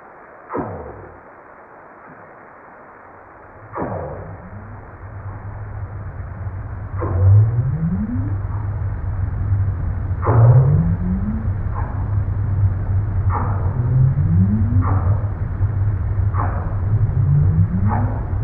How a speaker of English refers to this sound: And hear the sound of the northern right whale.